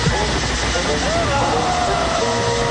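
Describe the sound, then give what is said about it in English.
A blender runs loudly and without a break, a dense whirring roar with a thin whine that wavers up and down in pitch for the whole stretch. “Well, I don't think I have any choice but to shove you into this blender, son.”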